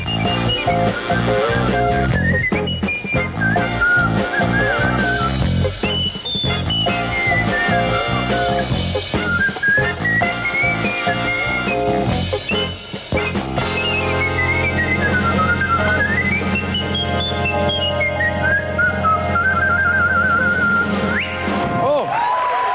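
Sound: jazz whistling performance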